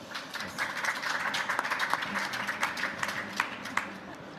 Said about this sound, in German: Herzlich willkommen und ein Applaus für euch.